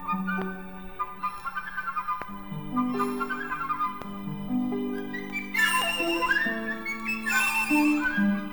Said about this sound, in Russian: В группе деревянных, выше, светлее всех, звучит флейта.